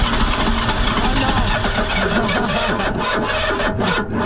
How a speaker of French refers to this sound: Bon, c'est quoi ? C'est la voiture volée qui a plus d'essence. Je croyais qu'il avait calé.